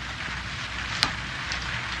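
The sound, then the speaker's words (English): Heavy rain pours down in a steady, dense hiss, with one sharper drop or splat standing out partway through. No voices are heard. “Could use some rain.”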